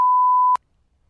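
A single steady, mid-pitched censor bleep over a swear word, lasting about half a second, loud and clean, cutting off abruptly into near silence with no voices around it.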